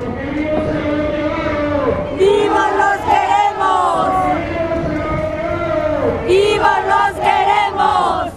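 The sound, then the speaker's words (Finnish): A large protest crowd in front of the attorney general's office in Mexico City chants in unison over 43 students abducted in Guerrero, answering a leader's shouted call, "Alive they took them," with a loud, rhythmic "Alive we want them back"; the massed voices rise and fall in repeated phrases, strong and sustained throughout. “Väkijoukko osoittaa mieltään oikeuskanslerin viraston edessä Ciudad de Mexicossa.”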